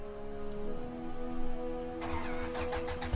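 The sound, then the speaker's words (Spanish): In a California Highway Patrol experiment, a manual-transmission car with a cap wedged on its fuel regulator is put in gear and started: a steady low mechanical drone, then a sudden loud burst of rapid, pulsing combustion as it catches and revs to about 6,000 rpm, lurching forward, with no voices. “Puso una velocidad y prendió el motor.”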